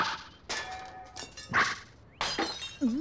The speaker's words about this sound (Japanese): ん？何かしら？ ガラスの割れた音みたいだな。